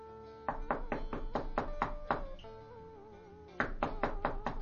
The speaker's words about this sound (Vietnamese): Tôi đã gõ cửa. Ai vậy? Ai mà gõ cửa đêm hôm tối tăm vậy?